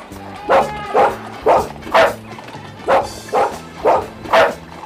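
A dog barks eight times in a steady, evenly spaced series, each bark loud, with no voices present.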